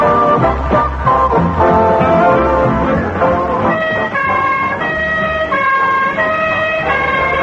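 ambulance siren driving away

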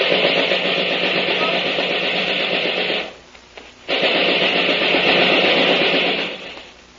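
gunfire

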